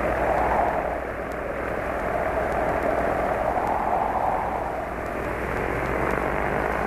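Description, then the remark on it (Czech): An early propeller airplane flown by Rusijan flies over the Sava river toward Topčider hill, droning steadily for the whole stretch, a dense rumbling engine roar whose mid-range tone slowly swells and fades in waves, with no voices. “Poleteo je iznad Save i uputio se ka Topčiderskom brdu.”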